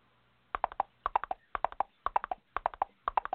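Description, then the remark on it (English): Horse hooves clip-clop in a steady, brisk rhythm, sharp hollow knocks grouped in quick patterns as if trotting on a hard surface, clear with no voices. “brought his horse to work again.”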